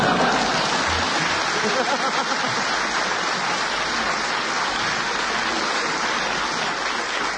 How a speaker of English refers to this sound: If you clap that, you'll clap anything.